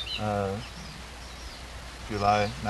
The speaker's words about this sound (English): this recording made on the 10th of July 1991, there are lots of birds singing and cocks crowing, wind noises and all sorts of other things.